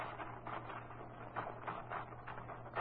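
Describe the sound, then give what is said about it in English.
Quiet mechanical rustling and soft ratcheting as paper is rolled into a typewriter, in a few uneven bursts over a low steady hum, with no one speaking. “You want to use my typewriter. Sure, I'll put some paper in it for you.”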